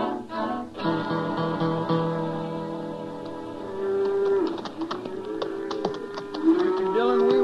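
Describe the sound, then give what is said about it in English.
Several cattle moo in long, overlapping low calls, a herd lowing together, with steady rustling and faint tapping sounds underneath. “Get to Dodge if we stop and tally ever heard of cows we come across. This is a bunch I wanted to see”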